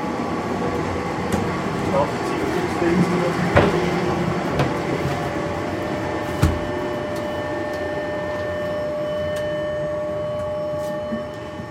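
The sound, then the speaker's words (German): An older tram model being warmed up at about 4 a.m., an hour before the first trams go out, so that it heats and its machinery pre-runs: its converters give a steady electrical hum with high whining tones that shift partway through, broken by a few sharp clicks and knocks. “Dass sie heizen, dass die Maschine vorläuft, vor allem eben mit den Alten.”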